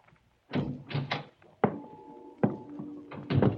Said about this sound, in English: I edged closer and then... I banged against the steel drum and the noise it made shattered the silence.